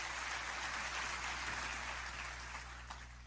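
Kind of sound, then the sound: crowd, audience applause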